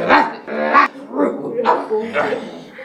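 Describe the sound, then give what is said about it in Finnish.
A human voice imitates a dog barking and growling as a dog lying by a door jumps up and bites robbers on the shin, with about five rough, harmonic bark-like bursts in quick, uneven succession, fairly loud. “Mutta ovella makaava koira hyppäsi pystyyn, ja puri heitä sääreen.”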